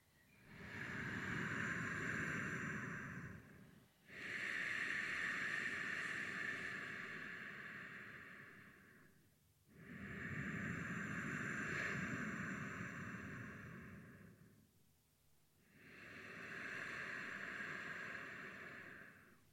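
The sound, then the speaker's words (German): Slow ujjayi breathing through the nose with the tongue tip against the back of the palate: four long, rushing breaths alternate in and out with short pauses, each with a steady ocean-like hiss. No one speaks. “In der Ujjayi-Atmung legst du jetzt die Zungenspitze hinten an den Gaumen und atmest hörbar durch die Nase ein und aus.”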